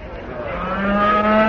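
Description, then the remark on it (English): A single long, low cow moo, fairly loud, swelling steadily in strength and holding its droning pitch for over a second with no other voices. “I say, would you mind keeping that cow quiet?”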